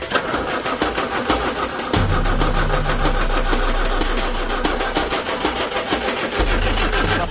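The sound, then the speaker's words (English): A farm pump engine, hosed to three rams, is started with the ignition on and a button press. It cranks and catches, settling into a rapid, steady mechanical chugging with a deep droning hum underneath that dips briefly near the end. No one speaks. “Ignition on, press the button.”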